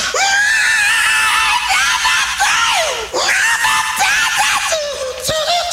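Loud, piercing screaming fills the whole stretch, a series of long shrill wails that rise and swoop in pitch with only brief breaks for breath, with no talking.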